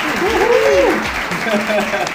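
An audience bursts into steady, dense applause welcoming an interview guest, lasting about two seconds, with a brief rising cheer or whoop sounding over the clapping near the start.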